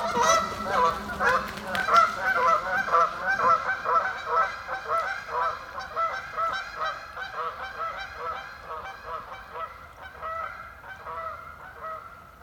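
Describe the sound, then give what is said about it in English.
A flock of newly arrived geese, just landed on a pond, honks and splashes continuously. The overlapping calls come in a busy, uneven rhythm, loud at first, then gradually thin and fade slightly toward the end. “Once touching water, our newly arrived guests set up a honking and splashing that shakes the last thought of winter out of the brittle cattails.”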